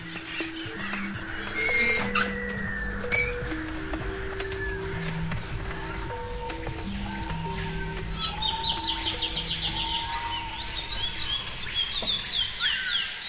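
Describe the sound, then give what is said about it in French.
Busy chorus of chirping and tweeting birds at feeding time, with rapid repeated high calls rising in the second half, over a steady low hum and scattered clicks. “Donc on va aller voir si jamais il reste des poissons qui sont au fond, ça servira à rien, mais si c'est pas le cas, de toute façon on verra vite, hein, le comportement des oiseaux vont vite nous montrer s'ils ont faim ou pas.”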